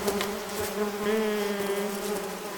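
A steady, continuous drone of many bees buzzing together from a single hive, a colony that travels with its keepers, forming a dense humming swarm that holds at a fairly even level throughout, with no voices.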